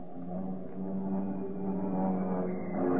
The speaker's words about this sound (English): What's that sound? Bombers. It can't be.